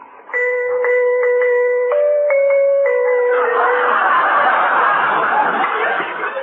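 The doorbell at Digger Odell's place chimes a short tune of sustained, ringing notes for about three seconds, then a swell of audience laughter takes over.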